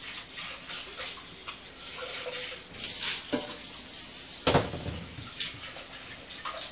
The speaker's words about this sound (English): Okay, I think I'm going to do it in a smaller pan this year, because it's easier to pour. Let me just wash this pan.